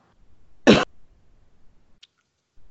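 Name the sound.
cough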